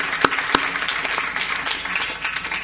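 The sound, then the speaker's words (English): A crowd applauds steadily for a panel, a dense wash of many hands clapping at an even loudness, with a couple of sharper individual claps standing out near the start. “Thanks to our panel. I'm going to give them a clap.”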